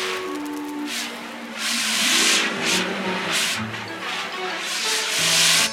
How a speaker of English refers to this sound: Could you imagine the plane on the ground just by hearing these sounds? You know, the metal creaking and the sound of the fire being put out.